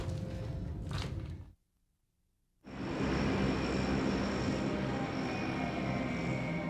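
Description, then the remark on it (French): The engines of American B-52 bombers, deployed with strike aircraft at Khe Sanh during the Tet Offensive to bomb enemy troops, roar loudly overhead, a dense sustained rumble that cuts out briefly to silence, then returns even stronger and steady, with no voices. “Une flotte de bombardiers B-52 américains et d'avions de frappe est déployée à Khe-San.”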